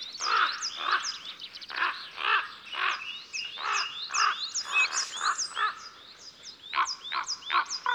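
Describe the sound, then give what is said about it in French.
Harsh, croaking calls of two common ravens flying overhead repeat in quick bursts, fairly loud, with a rough, guttural quality; the sound of their wings is also heard; no voices are present. “Voilà deux grands corbeaux qui nous survolent en lançant leurs gros cris.”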